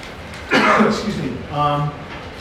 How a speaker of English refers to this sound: did I just cough in your ear? That must sound horrible.